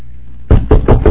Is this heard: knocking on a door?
yes